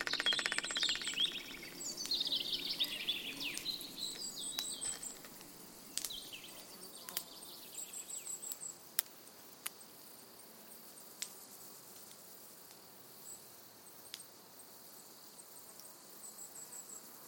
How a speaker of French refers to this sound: C'est-à-dire que ce sont des araignées qui tambourinent les feuilles mortes sur le sol et qui produisent ce son pour séduire les femelles. Donc c'est un appel sexuel en fait.